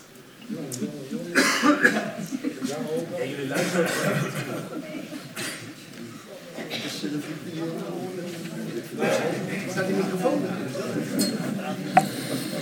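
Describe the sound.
Several coughs break out in a council chamber during a debate, scattered bursts from different people, mixed with low murmuring voices, a faint chuckle and a small clink.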